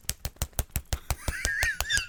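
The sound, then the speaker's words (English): A straw jabs rapidly into an emptied Slurpee cup during a movie in a quick, steady run of sharp knocks, then a wavering, gurgly slurp rises over the continuing taps. “Midway through the movie, he runs out of, like, you know, where you hit that low point in the Slurpee. So all of a sudden it's just. And then he's got to jam that straw in.”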